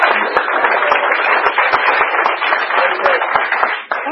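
A crowd at the Blue Chip Speakers Meeting applauds a speaker steadily for about four seconds: dense, loud, even clapping with sharp individual claps popping out of the wash. It thins slightly just before the end.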